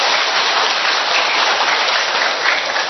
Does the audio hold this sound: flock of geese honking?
no